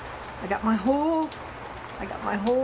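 Steady rain hisses down on an afternoon in a dense, even wash with occasional louder drop patters, while a voice murmurs briefly over it.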